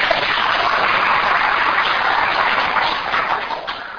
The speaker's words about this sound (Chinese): 我们请大家鼓掌欢迎。